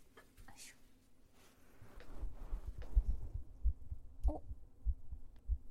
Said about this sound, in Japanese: 聞こえる？聞こえるね、今日すごく。どうしたんだろう。よし、ママの心音聞いて安心してるのね。一週間よく頑張ったから、もう一回赤ちゃんに戻っていいんだよ。ママの心音いっぱい聞いてごらん。